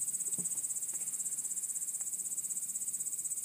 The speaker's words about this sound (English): They just lie and listen to this for hours. Loud crickets. Listen to that.